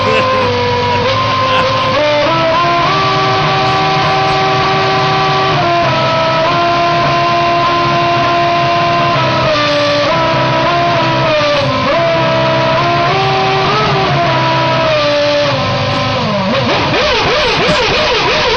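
A Formula 1 car engine warms up, loud and continuous, its revs held at steady pitches and shifting in steps so the whine sounds almost like a tune, God Save the Queen.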